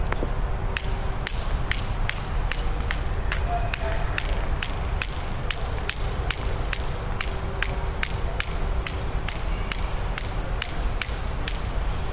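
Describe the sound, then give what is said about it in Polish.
Steady, hard-soled footsteps of a person leaving work walk at an even pace through an empty, closed shopping mall at 10 p.m., each step crisp and echoing over a constant low ventilation hum. No one speaks. “Jest godzina 22, także usłyszy Państwo, jak brzmi centrum handlowe. Otwieram drzwi, jak on brzmi w nocy, gdy już nie pracuje.”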